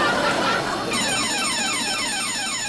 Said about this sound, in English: Luckily, the boys are saved by the bell, specifically the alarm bell, as the gas triggers the fridge's security system, alerting a staff member.